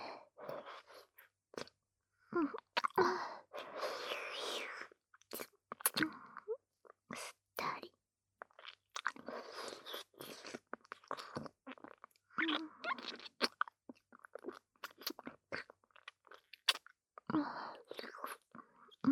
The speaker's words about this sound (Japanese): 重ねるような優しいキスから、唇をすすったり、唾液をすするようなエッチなキス、顔をねじ込んだ。